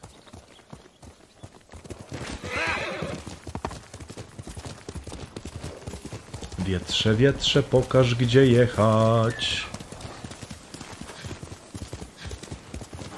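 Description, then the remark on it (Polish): Steady clip-clop of horse hooves runs throughout, with a loud, wavering whinny rising mid-clip; a person speaks briefly over the hoofbeats. “Dobra, koniu! Skąd on się tu nagle wziął?”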